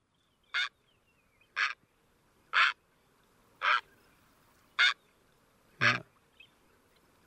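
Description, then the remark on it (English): A green heron gives a series of six harsh, throaty calls, spaced roughly a second apart, each a short guttural burst standing out clearly against a quiet outdoor background. “Yeah, described as scowl. Yeah. Kind of a throaty, guttural one, where the great blue heron is just a real deep squawk.”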